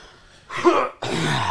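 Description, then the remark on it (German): A person coughs harshly, two rough bursts in quick succession, the second longer and sustained, like the start of a coughing fit. No one speaks. “Ich hier gerade eine Hustenattacke sterbe.”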